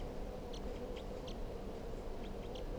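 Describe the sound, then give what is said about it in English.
A handful of short, high-pitched wild bird chirps come in irregular bursts, fairly faint, over a constant low rumbling background noise, as a wild bird comes down toward a cage. No one speaks. “It's recording the birds here.”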